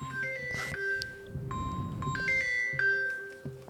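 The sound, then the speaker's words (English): A phone rings with an incoming call, an electronic melodic ringtone, a sequence of bright, steady tones stepping up and down in pitch, repeating over a faint low rumble with no one speaking. “There's an important phone call coming in.”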